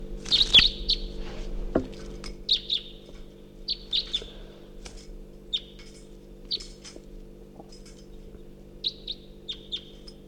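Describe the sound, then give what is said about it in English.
A wild bird, labeled bird 354, chirps while flying around at 6:00 a.m., in short, high-pitched bursts, repeating irregularly throughout, some as quick doubled notes, over a steady low hum with no talking. “Wild bird flying around.”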